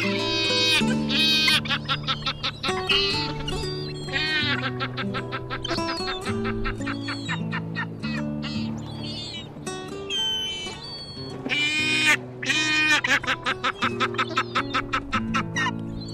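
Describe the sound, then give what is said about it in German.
A Caspian gull calls loudly, a series of harsh, laughing cries repeated in rapid bursts throughout, with a steady low drone running underneath. “Das war die Steppenmöwe.”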